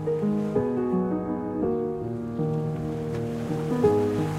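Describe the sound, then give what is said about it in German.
Steady sea surf, heard from a path through grassy dunes, rushes softly beneath sustained, slowly shifting instrumental chords, a continuous wash of waves growing louder, with no voices. “Und das Rauschen des Meeres wird immer lauter.”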